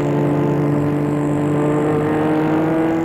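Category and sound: vehicle, car driving off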